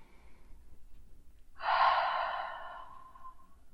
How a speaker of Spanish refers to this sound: Y me voy encontrando con la repetición de ese sonido que es el sonido de mi respiración. ¿Cómo suena mi exhalación?